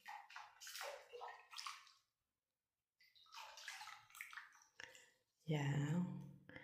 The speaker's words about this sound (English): I'm recording from inside a bathtub right now, and so please forgive the echo or any weird sounds that you may hear. I got neighbors, and if you don't believe me, let me make some noises so you believe that I'm on a bathtub.